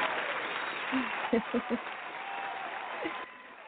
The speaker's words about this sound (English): So we're going to give them an applause that they will continue to support you in all your music projects.